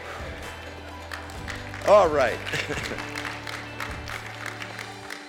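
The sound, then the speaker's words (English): An audience claps in a loose, scattered patter that runs throughout during a church sermon, as the preacher asks for a hand clap or an amen; a voice calls out briefly over the applause and a steady low hum sits underneath. “I thought I'd get a hand clap or an amen.”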